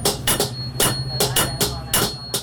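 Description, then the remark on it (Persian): A coppersmith hammering on copper in the coppersmiths' bazaar of Herat: about seven sharp metallic blows at an uneven, steady pace, each ringing briefly, fairly loud over a low background hum. “نه صدای آن چکش ها به گوش می رسد و نه هم ظروف میسی خریداران سالهای گذشته را دارد.”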